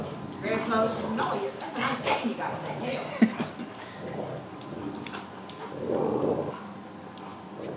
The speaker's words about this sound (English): I had to put a hand on him. He definitely growls. Noah's just more vocal with his.